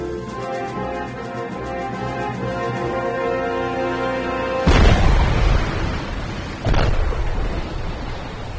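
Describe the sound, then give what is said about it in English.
Two underwater explosions of Mark 48 torpedoes fired from Cheyenne at Akula submarines boom out about two seconds apart, at sonar bearings 195 and 178, each a muffled rumbling burst that swells over a steady, droning mechanical hum. No one speaks. “Sonar, explosions bearing 195 and 178.”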